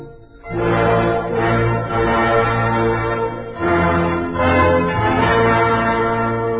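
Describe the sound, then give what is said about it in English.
Bells ring out loudly, with a fresh clang near the start and another midway, their rich overlapping tones humming and sustaining between strikes. No voices. “But the old bell asked her to marry him, and she said...”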